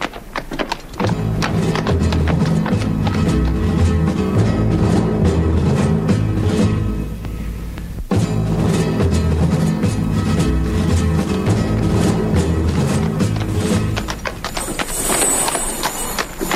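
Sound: donkey hooves clip-clopping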